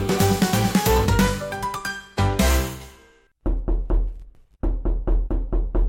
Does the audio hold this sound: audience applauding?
no